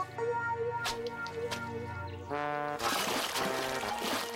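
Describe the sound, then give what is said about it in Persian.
Flowers from the edge of a pool tumble and splash into the pool water, a burst of wet splattering that follows a stretch of steady tonal music playing. “تمام گلای استخر توی آب میریزن.”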